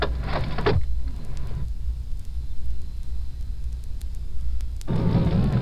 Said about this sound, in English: We're cruising down a residential street.